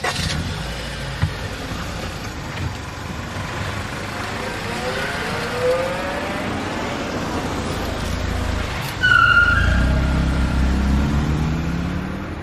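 A car engine runs steadily with rumbling road noise, then revs louder near the end as the vehicle pulls away, with no talking.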